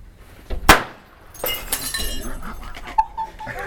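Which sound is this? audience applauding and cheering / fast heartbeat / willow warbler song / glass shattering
glass shattering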